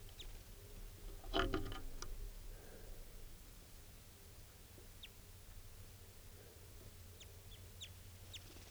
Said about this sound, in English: So recording here is that same type 2 bird, wild bird. It's a male. He's coming down. Pointed at the bird. He's looking down.